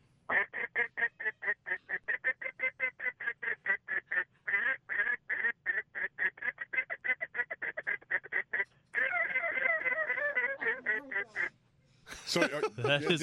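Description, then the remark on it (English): Loud duck greeting call blown on a handheld duck call to draw ducks closer: a long run of rapid, rhythmic quacks imitating several ducks, then a stretch of raspy overlapping feeding chatter and a short final burst. “now we're going to go into what they consider like a greeting call, you know, and I'm going to just mix up my ducks a little bit, try to sound like more than one duck, and gonna try to get them a little bit closer.”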